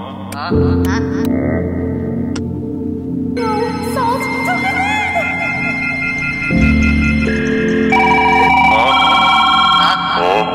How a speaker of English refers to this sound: I get the phone?